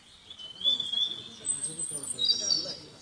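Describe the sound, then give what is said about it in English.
Birds chirp in quick, high bursts throughout, bright, over a low background of indistinct voices murmuring, people speaking English at Vaughn Town. “I'm not talking about the birds chirping.”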